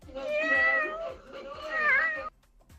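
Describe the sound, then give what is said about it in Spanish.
A human voice imitates a kitten's meow: two drawn-out, wavering mewing cries run together, fairly loud, before stopping abruptly into near silence. “Número 2. Gato, no. Gatito.”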